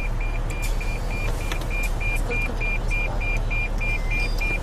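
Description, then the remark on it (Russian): A payment machine that also takes credit cards accepts an inserted banknote as payment for the exit, emitting a rapid, evenly spaced series of short electronic beeps, about a dozen in a row, over a steady low mechanical hum with faint background noise. “Значит, мы вставляем бумажечку.”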